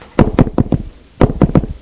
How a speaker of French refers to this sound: On frappe à la porte.